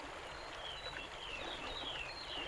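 Water rushes and splashes in a steady, continuous roar from a waterfall, with faint high bird chirps repeating above it. No one speaks.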